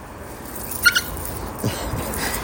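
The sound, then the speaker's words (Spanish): A leashed dog named Tofi, turning aggressive as it nears another dog, gives two quick, high-pitched yelps in close succession, followed by faint rustling and low background noise. “Y cuando ya se va acercando más, entonces empieza malo su perro.”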